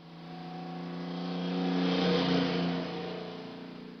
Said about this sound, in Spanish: su maestra, Mrs. Ying, llegó manejando a exceso de velocidad